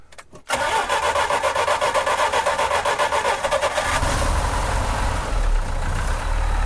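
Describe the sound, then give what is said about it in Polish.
The cold engine of a Żuk that has stood for a while cranks for a moment, catches and fires up loudly, then settles into a rough, steady idle with a deep low rumble building after a few seconds. No voices. “Zobaczymy, czy odpali, jest zimny, trochę stał.”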